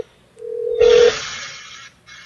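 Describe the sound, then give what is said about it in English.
A phone call being placed to a person: a steady electronic phone tone hums for about half a second, then grows louder under a burst of line hiss, followed by continuing static as the call connects. No one speaks. “so we're calling up”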